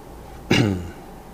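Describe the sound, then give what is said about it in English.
A single harsh cough bursts out suddenly, a short rough throat-clearing hack that fades within half a second, with no talking around it, from a person who has been ill since November. “So pardon me if I have to hack and cough and spit.”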